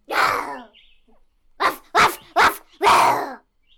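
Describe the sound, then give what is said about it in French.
A dog named Janou barks loudly and aggressively at the foot of a large cherry tree at the back of a garden, at a cat perched two metres above: one sharp bark followed by a quick burst of four more in a steady rhythm, with brief silences between. “2 mètres plus bas, Janou aboie au pied, d'un air terrible.”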